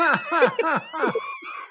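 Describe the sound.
A person imitates a turkey gobbling: a quick run of five or so warbling, throaty voiced syllables, fairly loud, trailing off into a softer, higher tail.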